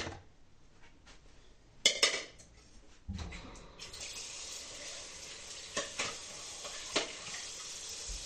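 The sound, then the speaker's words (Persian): A tuna can clanks into a metal cooking pot with a sharp metallic knock and brief rattle, followed by a steady hiss of running water or sizzling and a few lighter kitchen clinks. “همینطوری انداختم تو قابلمه.”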